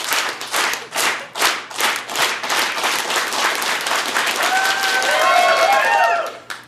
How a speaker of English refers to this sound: Can we start a clap? Can we start a slow clap